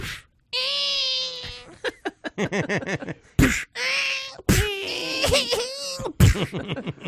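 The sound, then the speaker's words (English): A person's voice imitates a wailing, crying baby as a sound effect for listeners: a long drawn-out cry, then quick sobbing bursts and more loud wails with sharp breathy gasps between them. “They get the full. Baby sound effects.”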